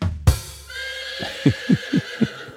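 A horse whinnies loudly, starting with a sharp burst and trailing into a long, quavering neigh that breaks into several rhythmic, snorting pulses before fading.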